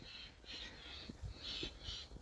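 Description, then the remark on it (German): Birds pass overhead calling: a run of five or so harsh, crow-like caws in an irregular rhythm, fairly loud over a low rumbling background, with no one talking. “Vielleicht hörst du jetzt gerade die Vögel, die hier langfliegen.”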